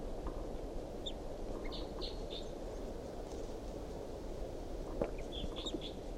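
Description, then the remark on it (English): A wild bird calls in short, high chirps, a cluster early on and another near the end, fairly faint over a steady rumbling outdoor background; it is calling in response to decoys from the top of a tall pine tree above a truck. “Wild bird calls, responds by decoys.”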